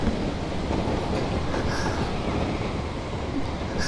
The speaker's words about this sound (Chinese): 怎么这么颠簸啊？地区地铁那应该挺平稳的吧。真是的，司机什么技术啊？